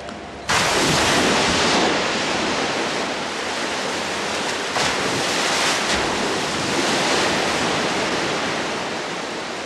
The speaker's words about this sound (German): Die Maschine etwa, die die Wellen des Meeres reproduziert, ist ein Instrument der Überwachung.